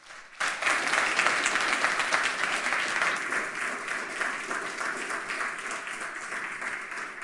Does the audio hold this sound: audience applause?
yes